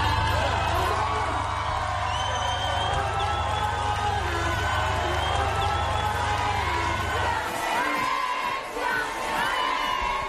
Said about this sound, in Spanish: Empieza con la celebración de las mujeres que han logrado entrar en la historia porque son, ellas son, campeonas del mundo.